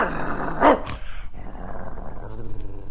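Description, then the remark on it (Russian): A dog lets out a sharp, loud bark followed by a low, rumbling growl that continues steadily underneath, with no talking. “Вот значит, он и жильцов в подъезде облаивает так же, как, допустим, лисиц.”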